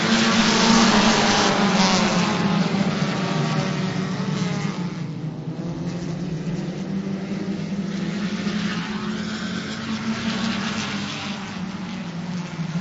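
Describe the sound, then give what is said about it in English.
A loud, continuous roar of several race car engines accelerating together on a green flag restart with 10 laps to go after the pace car pulls in, the dense pack holding a steady snarling drone that eases slightly as the cars pull away. No voices. “Pace car in, here they come, 10 to go, green flag flies.”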